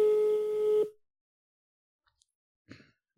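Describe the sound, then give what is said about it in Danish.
A single phone ringing tone from an outgoing call to a man, played through a speakerphone, a steady buzzy pitch lasting under a second, then near silence with a few faint breathy noises. “Okay, vi ringer ham op nu.”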